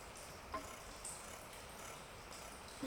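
Quiet, steady shaving or scraping, a soft dry rasp, broken by a few faint clicks or catches. No one speaks.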